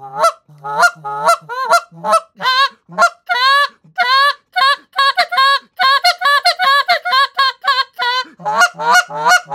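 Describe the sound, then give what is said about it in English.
Loud imitation of Canada goose calls: a rapid, rhythmic run of honks mixing longer full notes with shorter, higher clipped half notes, with no talking over them. “I mean, I'll do full notes, and then there's kind of this half note.”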